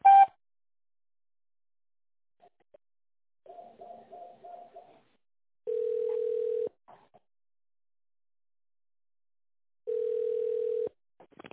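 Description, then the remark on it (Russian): Phone line signalling from the office phone system of the company Za Sport, the signal after which callers dial an extension in tone mode: a short burst of rapid pulsed ringing, then two long, steady, mid-pitched beeps about a second each, separated by silence. No voices are heard. “Наберите добавочный номер в тоновом режиме после сигнала или дождитесь ответа оператора.”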